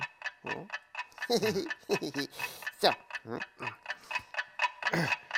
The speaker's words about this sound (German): Das ist ja unser Wecker. Der macht das Geräusch. Das habe ich mir ja gleich gedacht. Ja, aber wieso liegt denn unser Wecker unter dem Bett? Na, den habe ich da drunter geschoben.